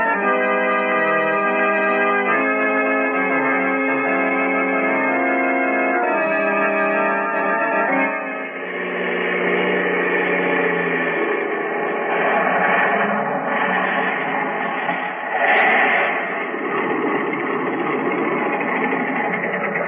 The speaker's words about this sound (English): Yes. Thank heaven this plane's got an automatic starter. Hurry. Grab your belt. Here we go.